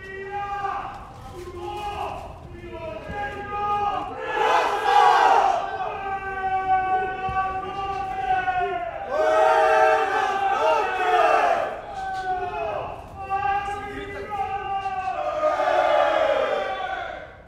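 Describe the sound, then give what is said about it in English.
Many male inmates shouting and yelling over one another during the nightly 10 p.m. shutdown routine in a prison reception unit, loud, overlapping bursts, voices rising and falling in waves for the whole stretch, with no clear words standing out. “That's the shutdown routine in reception that happens every night.”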